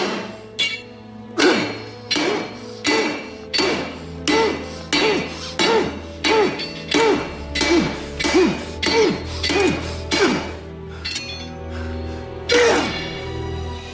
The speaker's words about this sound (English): He extracts from the furnace a long, sharp piece of metal, places it on an anvil, and beats it viciously with a hammer. Sparks fly off the metal.